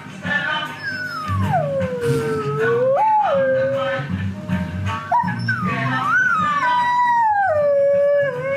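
Dogs howl in long, wavering, sliding tones almost without pause, rising and falling over a steady rhythmic reggae music track playing underneath.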